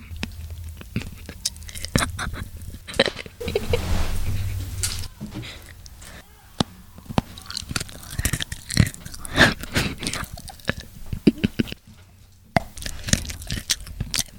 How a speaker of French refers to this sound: Donc là, je déguste une cacahuète.